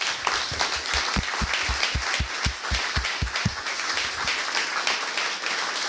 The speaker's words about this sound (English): Get ready to clap again. I believe that we all owe a very profound debt to the combined efforts of the ALSA and JAC teams, and a round of applause should be given to team leaders